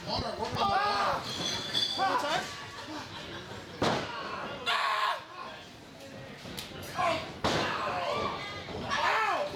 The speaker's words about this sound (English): The screams and punches were loud and fast Friday night at the Z-Fun Factory in Yuma. No, it wasn't a bar fight. Rather, it was a colorful world of professional wrestling by Yuma's local promotion, Attitude Pro Wrestling.